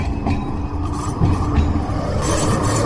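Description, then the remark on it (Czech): An autonomous tram rumbles along the rails, a steady low mechanical drone with faint clanks and squeaks, growing slightly louder as it approaches while a passenger car crosses its path during a test. No one speaks. “K nám se právě blíží autonomní tramvaj a cestují křižuje osobní auto.”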